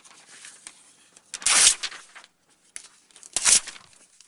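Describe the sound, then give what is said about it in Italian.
Paper being torn in two sharp, ripping bursts with soft crinkling between them, bright and noisy across the highs, the second rip following about two seconds after the first: Vincent's unsent letter to Theo and Jo being partially torn up. “Forse per il tono non abituale, non la spedisce e anzi parzialmente la strappa quando riceve una lettera conciliante da Jo, alla quale risponderà il 10 luglio.”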